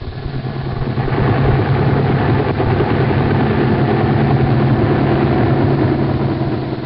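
A helicopter's engine and rotor roar steadily and loudly, a continuous throbbing drone that holds at the same level for about seven seconds with no voices.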